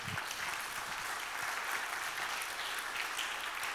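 An audience applauds steadily, a dense wash of many hands clapping at an even level for the whole stretch, with no voices rising above it.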